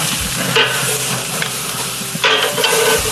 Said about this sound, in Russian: О, какой, смотри, огонек уже появился. Ну, сало капает на угли.